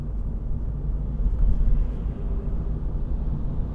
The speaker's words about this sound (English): I wouldn't call it quiet. It seems there's a fair amount of cabin noise.